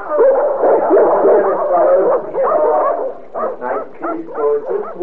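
Several dogs bark and yip in a loud, overlapping clamor, the noise thinning into separate sharp yaps and whimpers toward the end.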